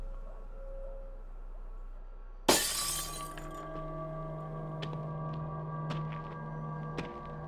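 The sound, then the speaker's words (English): Kitchen window glass smashes in one sudden, loud crash after a low steady hum, then rings on with a lingering tone while a few small shards tinkle down at scattered moments; the window is broken to get into a house whose door will not budge. “We can get in through the kitchen window.”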